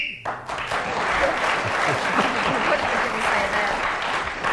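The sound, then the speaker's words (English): A short, sharp whistle blast marks time up at the end of a round as Sheila Hancock is speaking, then is immediately swallowed by loud, sustained applause from an audience that continues to the end. “So, Sheila Hancock's singing attempts have helped her to increase her lead at the end of the round, including the extra point for speaking as the whistle went.”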